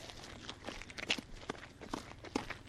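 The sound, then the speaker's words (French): Footsteps walking at a steady, even pace, each step a soft crunch, with a quiet outdoor background and no one talking. “Oui, parce que j'ai le droit de me balader comme ça dans le bourg.”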